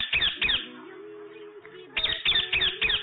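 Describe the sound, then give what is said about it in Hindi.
Harsh, squawking parrot calls, played in a bird-sound guessing quiz, come in quick bursts: a pair of loud screeches, a short lull with a faint tonal murmur, then four rapid squawks in a row, clear with no talking. “आपने कहा तोता, आपका जवाब दुरुस्त है।”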